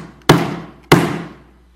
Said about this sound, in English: You know, every once in a while, I am bound by my responsibilities as a pastor to pound the pulpit. So take note. That happened today.